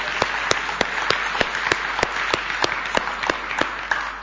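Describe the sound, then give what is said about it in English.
A crowd applauds all the people who helped make the temple that morning, a dense wash of clapping with a few sharper, louder claps punctuating it at fairly regular intervals, sustained throughout without any talking. “First of all, I think it'll be wonderful to give a round of applause to all the people who've helped me to make the temple this morning.”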